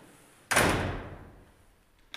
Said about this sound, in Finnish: Ja avaan täältä oveen. Ja tosiaan tämä ovi on niin matala, että me joudutaan kumartumaan, kun me mennään ovesta sisälle. Ja puinen ovi.